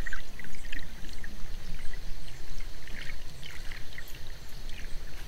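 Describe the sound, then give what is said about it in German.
A river flows steadily with a continuous rushing, gurgling wash of water, fairly loud, while faint bird chirps flick in and out above it. “Diese Haupteigenschaft von Flüssen ist es auch, die wir uns heute aneignen wollen. Hören wir kurz in die Landschaft.”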